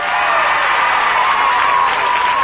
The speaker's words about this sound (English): Let's hear your applause.